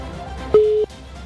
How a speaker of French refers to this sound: Trois sonneries déjà. Ah là là. Est-ce que ça va répondre?